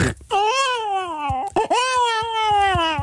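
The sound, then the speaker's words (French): A voice imitates a hungry baby crying, two long, loud, wailing cries with a strained, rising-then-falling pitch, separated by a brief catch of breath, uninterrupted. “Vous savez faire le bébé qui pleure.”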